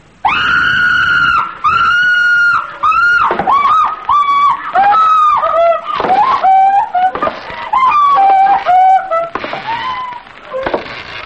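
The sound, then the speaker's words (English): A comic noise standing for rural celebrations on Phil Archer's wedding night: a harsh, continuous chorus of high squeals and strangled shrieks, like crows being minced in a squeaking machine, with pitch bending up and down in short bursts for about eleven seconds, loud throughout. “It's, rural celebrations on Phil Archer's wedding night, which consists of mincing crows in a squeaking machine and throwing Walter Gabriel headfirst into a vat of milk.”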